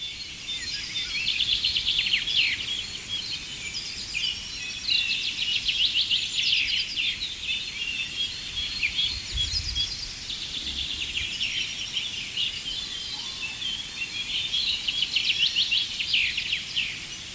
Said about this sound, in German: Dass die meisten von euch diesen einen, gerade das Klangbild dominierenden Vogel deutlich raushören konnten, also die eine Vogelart, unseren Buchfink, ein wiederholender Gesang, also immer dieses, also ein kräftiger, schmetternder